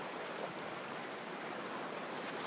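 A steady, hissing wash of ocean surf breaking on rocks rolls on without pause, soft and continuous with no distinct individual crashes and no voices.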